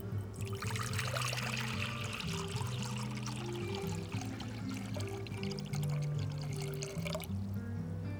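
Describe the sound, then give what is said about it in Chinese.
Hand-shaken milk tea pours steadily into a cup for several seconds as the final step of making it, a continuous splashing trickle, with soft background music playing underneath. “好了，把奶茶倒进杯子里就大功告成了。”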